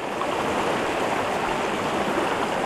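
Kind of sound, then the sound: nature, flowing river stream water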